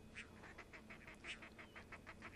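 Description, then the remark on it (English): Two pairs of crested ducks quarrel back and forth in a rapid, agitated series of harsh quacking notes, about a dozen bursts with two louder peaks, over a steady low background rumble, on a beach with bird counters watching, after a microphone is pointed at them. “These two pair of crested ducks seemed to respond when I pointed a microphone in their direction.”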